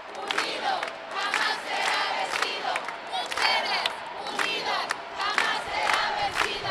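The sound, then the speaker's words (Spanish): More than 100 people, mostly women, in a City Hall chamber erupt in loud, sustained cheering and shouting as all 11 supervisors vote in favour, with dense applause and rhythmic clapping running underneath, continuous for several seconds. “Cuando los 11 supervisores votaron a favor, el recinto estalló en gritos y aplausos.”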